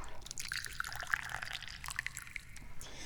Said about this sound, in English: What we do now is pour the tea. I do like tea.